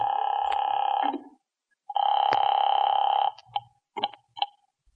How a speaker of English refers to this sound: What are you doing now? Calling that number.